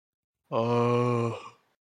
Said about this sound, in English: He's yawning a little bit. So, you know, I had to wake him up and be like, come on, man, let's do this.